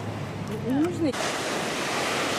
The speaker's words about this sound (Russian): Хочу вам, друзья, океанчик показать. Вот он прямо сливается, вы видите, сливается на горизонте. А вот здесь он у берега почище, а там вот дальше начинаются водоросли подальше.